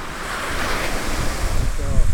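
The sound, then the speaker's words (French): Surf breaks and washes steadily onto a shore, a broad hissing roar that swells slightly toward the end, with gusts of wind buffeting the microphone. “Et puis, c'est toujours différent. Ah, la mer.”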